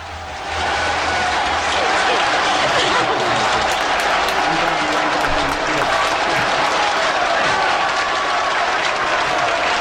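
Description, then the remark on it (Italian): A loud, dense applause sound effect of a large crowd, played after poetry readings, fades in over the first second, then sustains as continuous clapping to the end, with a few faint voices mixed into the roar. “Io ho trovato gli applausi”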